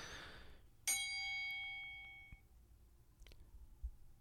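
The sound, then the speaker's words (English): A single bright bell ding rings out sharply, its metallic tone ringing and slowly decaying over about a second and a half, followed by faint rustling and small handling sounds. “Oh, wait, I gotta ding the bell.”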